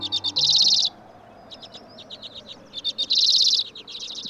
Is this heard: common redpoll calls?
yes